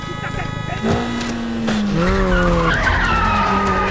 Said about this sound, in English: There's a lot of frenetic action here, including intense car chases.